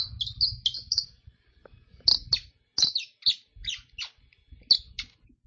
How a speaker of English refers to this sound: Let me see if I can make the bird call work.